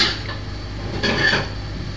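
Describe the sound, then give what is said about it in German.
A small pan being handled, with a continuous scraping, rubbing rasp and a brief brighter metallic clink partway through; no voices. “Nein, du tot machen mit der kleinen Pfanne.”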